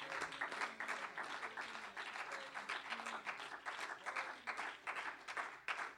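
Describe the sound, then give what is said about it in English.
A church audience clapping their hands to the Lord in a dense, continuous wash of applause that holds steady for the whole stretch, with faint voices mixed underneath. “Well, clap your hands to the Lord tonight.”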